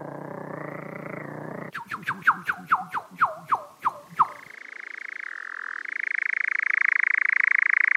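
A European nightjar's steady, mechanical churring trill drones on, briefly giving way to a rapid run of about nine sharp, croaking calls before the loud churr resumes.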